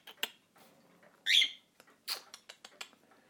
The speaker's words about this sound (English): You a happy bird? You like that song? I think you do. Yeah. Oh, good girl.